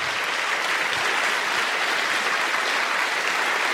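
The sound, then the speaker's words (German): Steady applause from an audience at the Marienfried prayer site after a personal testimony, a dense, even wash of many hands clapping at a constant loudness throughout, with no voices standing out. “Der Applaus ist für die Mutter Gottes und für Jesus.”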